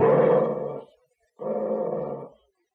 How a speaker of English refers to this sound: Well, did you teach Bullet anything new? Nothing in particular. We sort of reviewed the commands he knows. Bark, Bullet. Now, growl, Bullet.